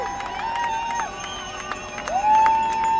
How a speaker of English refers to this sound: At the detention facility, a film studio converted to hold detained and arrested protesters, the crowd assembled across the street, cheering and singing. Three of those held inside were released to cheers from supporters.